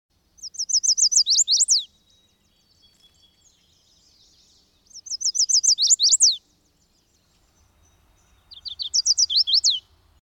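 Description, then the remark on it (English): A chestnut-sided warbler sings three bright, rapid phrases, each a quick series of high sweet notes ending in an emphatic downslurred flourish, with short pauses between, clear against a quiet background at a forest edge along a trail. “While you're at the forest edge, listen for the song of the chestnut-sided warbler.”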